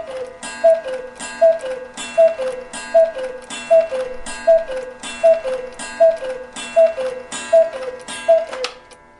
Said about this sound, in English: But this cuckoo clock? It belonged to my grandfather. I found it in the cellar and had it restored. Do you like it? Yeah, I mean, pretty much. I mean, it's nice, but it seems to chime the hours randomly, doesn't it?